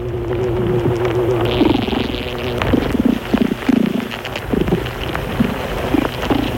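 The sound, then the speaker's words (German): Honeybees buzz and purr inside a hive, a steady low drone with wavering, throaty tones rising and falling over a crackly background, continuous for several seconds with no voices. “Ein Gegurre hört man da.”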